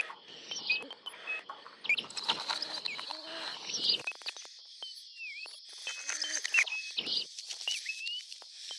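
Busy, high-pitched bird chirps and short whistles overlap continuously, mixed with scattered clicks and light tapping, at moderate volume with no voices.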